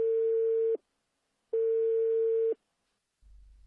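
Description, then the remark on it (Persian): A telephone ringback tone sounds while a call is placed to the provincial deputy for road maintenance and road transport: two steady, even electronic tones, each about a second long with a short pause between, clear, followed by a faint low rumble. “اما برای پیگیری بیشتر این موضوع ارتباط تلفنی با معاون اداری راهداری و حمل و نقل جادگی استان برقرار کردیم.”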